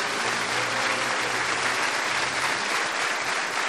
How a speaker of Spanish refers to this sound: Otro aplauso para ustedes, ¿eh?